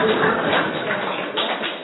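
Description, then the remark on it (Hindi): An audience gives a double round of clapping in a dense, steady burst of applause that holds at a fairly even loudness throughout, with no voices standing out over it. “ये सारा ताली बजा रहे”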